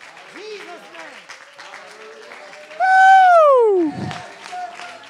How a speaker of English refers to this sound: Let go of your seat. Clap your hands. Make them louder.